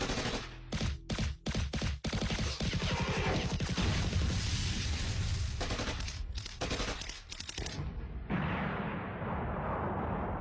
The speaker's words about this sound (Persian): جنگ جهانی اول در بلژیک، زمانی که زمین زیر انفجار توپ‌ها می‌لرزید و صدای رگبار در آسمون تنین انداخته بود،